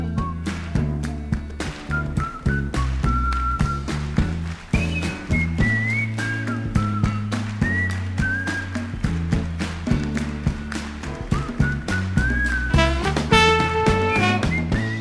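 A blues recording plays steadily, with a whistled melody weaving over a bouncing bass line and crisp, rhythmic percussive taps. It stays full and upfront throughout, with no talking.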